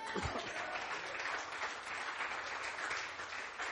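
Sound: audience clapping hands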